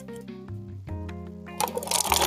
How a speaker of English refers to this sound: That was a bad pour. Sorry. This is gonna be better.